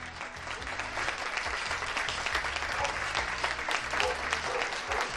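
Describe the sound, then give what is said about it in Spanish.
Sustained, dense applause from many people across the city of Bilbao, Spain, steady and fairly loud throughout, with scattered cheers and whistles mixed in, echoing as if from surrounding balconies. “En Bilbao, lejos de apagarse, el clamor va más.”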